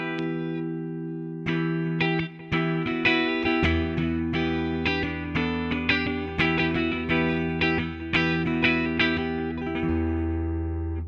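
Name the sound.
clean electric guitar tone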